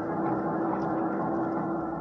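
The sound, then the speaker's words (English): A boat's big diesel engines run in a steady droning rumble with a constant low hum, unchanging in loudness throughout, with no voices. “The door swung back and forth with the motion of the boat, and I could hear the sound of the engines.”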